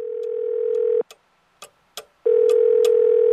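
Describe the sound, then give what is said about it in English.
A loud, steady telephone dial tone hums before an emergency call, cuts off for about a second while a few sharp clicks sound, then returns at full strength. “The emergency phone call.”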